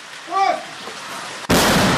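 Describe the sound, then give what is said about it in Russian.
A brief voice is heard, then a single mortar shot cracks out abruptly, its loud blast rushing on as dense, roaring noise until the end, as mortars fire shot after shot near the village of Ivanovske on the outskirts of Bakhmut during an assault. “Выстрел за выстрелом.”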